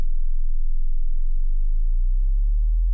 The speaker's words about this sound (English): Now, this is 20 hertz.